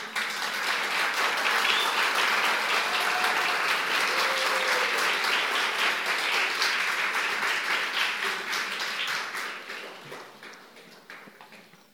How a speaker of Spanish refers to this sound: ¿Qué tal si levantamos al Señor un aplauso de gratitud? Ese es un aplauso muy, muy simploncito, digo yo.